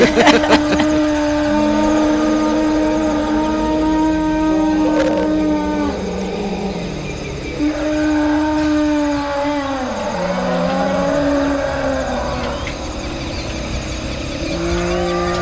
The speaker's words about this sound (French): Quand vous entendez ces éléphants, Blaiseau, vous vous retrouvez tout de suite auprès d'eux? Oui, tout à fait.